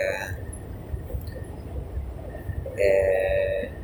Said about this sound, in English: now I'm a bit scared because the train, we go far from Jerusalem, that is great, but we're going close to the next stop is the airport